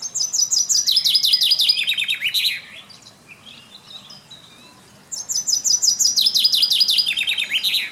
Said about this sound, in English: That was a chaffinch. And a chaffinch song is one of the most interesting bird songs for me.